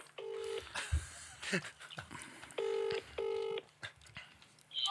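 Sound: phone dialing tones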